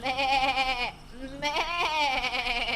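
A goat bleats twice in quick succession, a long quavering cry followed after a brief pause by a second wavering bleat, loud with no voices.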